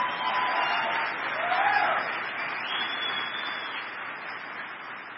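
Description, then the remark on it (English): A church audience claps steadily as a clap offering to God, a dense wash of many hands applauding together at an even, sustained level for several seconds, with no voices rising above it. “If you believe that, give God another clap offering.”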